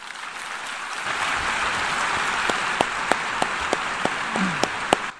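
Sustained applause from a large audience at the United Nations General Assembly as Pope Francis walks up to the podium, a dense steady wash of many hands clapping at even loudness for several seconds, with a few sharper individual claps standing out near the end.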